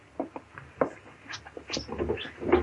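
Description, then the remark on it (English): A desk drawer slides open, followed by a scatter of light knocks, scrapes and clinks as a bottle is rummaged for and lifted out, fairly quiet, with no talking. “There's a bottle in the desk drawer over there. Chester, get it for me, will you?”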